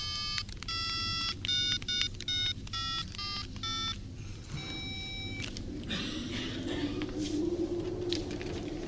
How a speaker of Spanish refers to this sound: Saca su celular y marca un número.